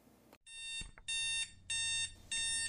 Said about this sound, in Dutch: Marnix geeft een klap op zijn wekker.